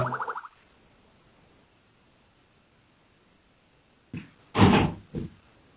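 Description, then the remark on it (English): A brief tonal twang, a long near-silent pause, then a hotel room door being opened to get tea: a latch click, a louder clunk as it swings open, and a short knock of it settling. “I just have to open the door to get my tea in the hotel room.”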